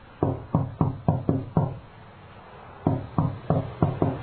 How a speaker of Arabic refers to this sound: المهم هم بعبور الشارع وراح يضغط على جرسها، ولكن ما من أحد يجيب. يبدو أن لا أحد في هذا المنزل، لأطرق الباب هذه المرة فلربما لا يعمل هذا الجرس.